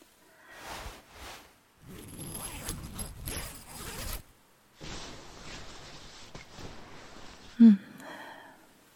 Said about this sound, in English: Zip up this sleeping bag and come cuddle, handsome.